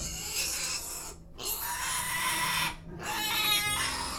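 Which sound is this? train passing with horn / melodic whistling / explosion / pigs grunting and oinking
pigs grunting and oinking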